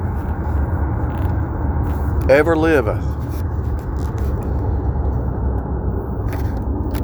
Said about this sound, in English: I got a lot of traffic right now. I don't know what's going on in this highway, but something.